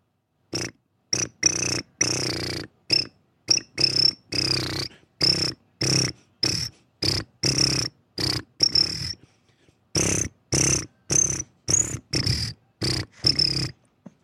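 Rhythmic, cricket-like chirps repeat in short bursts with brief pauses, following a march-like beat. They sound fairly loud, likely made by a voice imitating crickets as a mock cricket concert on the K-Nerdist show, with no talking.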